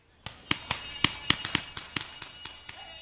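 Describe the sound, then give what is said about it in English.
A rapid, irregular string of sharp cracking bangs like firecrackers, a simulated explosion at a military training site on Fort Campbell as a team of recovering soldiers sweeps a gravel road for explosives; about a dozen pops over a few seconds with a faint ringing tone underneath. “An explosion catches Sergeant Joshua Thurman by surprise as he and a team of recovering soldiers sweep a gravel road for explosives”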